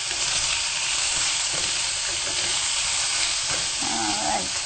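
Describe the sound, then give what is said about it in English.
Tofu frying and browning in a hot pan, with a steady, dense sizzle and crackle that continues evenly throughout, fairly loud, with no talking. “That is cooking wonderful, huh? Yep. Looks like it's kind of getting brown.”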